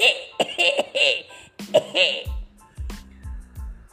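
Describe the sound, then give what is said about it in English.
A performed cough: a high, squeaky vocalizing voice gives way to several short, gruff coughing bursts in quick succession, moderately loud. “"Oh, I just have touch of a cold," squeaked the wolf, adding a cough at the end to prove the point.”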